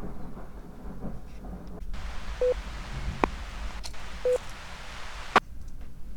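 rain with rumbling thunder

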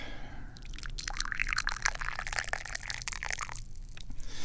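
liquid being poured

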